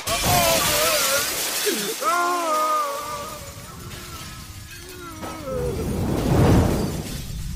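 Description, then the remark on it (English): A loud shattering crash bursts open, scattering bright, ringing tones that glide and shimmer, then a second rushing, crumbling swell rises near the end before fading out. “Arya of Ravan's passion, shattered into a million pieces.”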